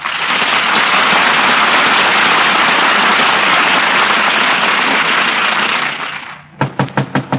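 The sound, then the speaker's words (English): A long burst of applause fades out, then a quick run of about five sharp, evenly spaced knocks on the door of 79 Westville Vista sounds on its own, in the radio show Fibber McGee and Molly. “McGee, there's somebody at the door.”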